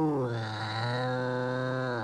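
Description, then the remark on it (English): A cat growls low and steadily for about two seconds, a droning, buzzy tone that dips slightly at the start and then holds an even pitch and loudness, with no other sounds. “As the door closed, he heard a low rumble.”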